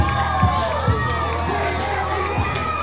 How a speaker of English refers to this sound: A three-run blast by Khalil Watson to the deepest part of the park, It's 400 out there, and right at the batter's eye, Ramirez was going back, and the crowd loves it as the Hammerheads now take over the lead. They're up 3-1.